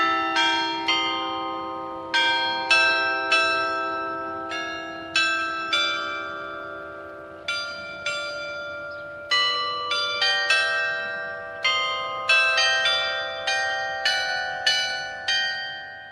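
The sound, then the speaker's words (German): A mechanical glockenspiel in the Tscharnergut quarter, one of the last mechanical glockenspiels in Switzerland, rings out a slow tune, its bell tones struck one after another with long overlapping decays, clear, with no voices. “So werden die Quartierbewohner vom Tscharnergut bis zur Umstellung auf Digitalisierung weiterhin noch einem von den letzten mechanischen Glockenspielen in der Schweiz können zuhören.”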